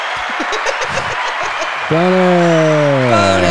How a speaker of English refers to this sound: Woo, that was like Dan Ninen level applause.